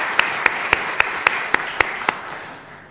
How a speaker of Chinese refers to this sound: 让我们存住感恩心去关怀我们身边的长辈。在这一刻愿意我们用一同的用掌声向我们当中的长辈来到去致敬。